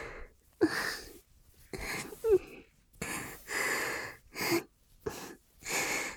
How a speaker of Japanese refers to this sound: 触ってるけど普段はこんな声だよ。音声作品みたいにあんあんは言わない。どっちかっていうとこんなはぁはぁみたいな感じと思う。